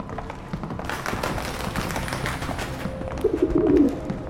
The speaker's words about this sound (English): What the hell is that? It looks like a black carrier pigeon.